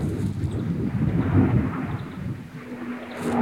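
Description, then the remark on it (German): A military jet thunders low overhead at roughly 100 meters altitude, its deep, continuous roar filling the whole clip at close range, loud and steady with a faint whine emerging as it passes. No one speaks. “Auch wenn der Donnervogel, den ziehen wir uns jetzt noch rein, hier viel zu nah über dem Himmel rüber brettert, ungefähr so auf, ich würde sagen, 100 Meter Höhe, brettert hier gerade ein Militärflugzeug rüber.”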